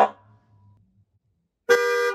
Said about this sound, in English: So Sean shared this video he took of his Cybertruck's horn to listen to this compared to the Model X for comparison.